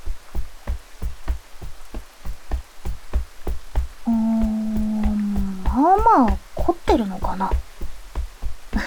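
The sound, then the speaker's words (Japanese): Rapid, steady tapping on someone's shoulders, even, continuing for the whole stretch while a soft voice briefly hums and murmurs over it midway. “そうだ、せっかくだから今度は肩叩いてあげようか。”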